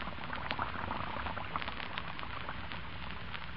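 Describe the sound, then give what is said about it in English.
Lux soap flakes fizz into suds in dishpan water as the water is turned on, a steady crackling and popping of tiny bubbles that stays even and continuous throughout, with no voices. “And almost at once, the flakes melt into a soft, frothy mass of bubbles.”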